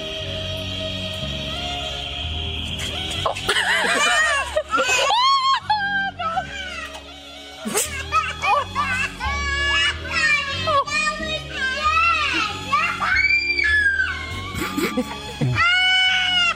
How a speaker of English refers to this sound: Kids crying at the same time. Actually, immediately.